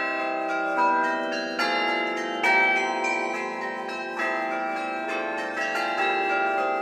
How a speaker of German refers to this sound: Dass die Taste einen gewissen Kick kriegt, damit der Klöppel oben an die Glocke anschlagen kann. Es kommt nur darauf an, dass die Glocke möglichst kurz angeschlagen wird. Dadurch kriegt sie einen sehr brillanten Klang.